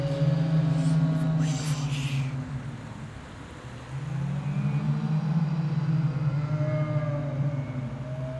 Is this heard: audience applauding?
no